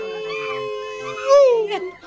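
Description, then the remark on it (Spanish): A person imitates a monkey call, a single nasal, wavering vocal cry that rises and swoops in pitch before trailing off, fairly loud, with no other talk. “Hiciste medio sonido a mono.”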